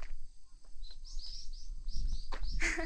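bird, wild birds singing outdoors

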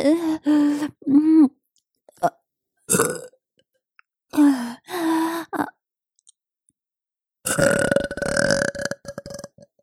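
human body sound, burping

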